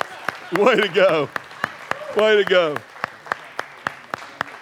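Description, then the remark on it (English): Hand clapping in a steady, even rhythm, crisp sharp claps continuing throughout, while a voice speaks over them for two short stretches. “All right, let's give them a hand clap.”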